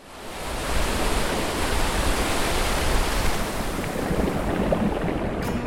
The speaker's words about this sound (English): My favorite thing about the ocean is the sound of the waves.